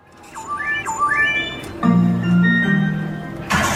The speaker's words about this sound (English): On the floor of the Circus Circus Casino, dozens of workers deal cards and carry drink trays to gamblers. Amid the beeps and chimes of slot machines, their aim is to cater to the whim of guests from all over the world.